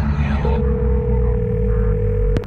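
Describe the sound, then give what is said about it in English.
A telephone ringing tone sounds as one steady, unbroken electronic beep lasting about two seconds, fairly loud, over a low droning hum, with no voices. “The phone is ringing.”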